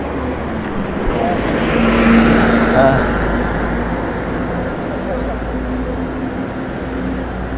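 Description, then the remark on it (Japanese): A bus rumbles past on a busy street at a traffic-light crossing, its engine swelling to a peak and then fading into steady traffic noise, with muffled voices in the background. “でも現地の方はやっぱり気にせず赤信号を無視して歩いてるんで、このバス行ったら僕も渡ってみようかな。”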